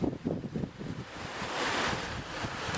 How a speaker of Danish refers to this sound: Der er lidt fugle i baggrunden. Jeg ved ikke, om man kan høre det på optagelsen. Der er i hvert fald lidt vind, kan jeg fornemme. Og så er der bare det her rendende vand.